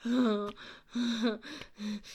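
A man pants heavily, three or four rough, voiced breaths in quick rhythm with short pauses between, loud and strained, with no talking.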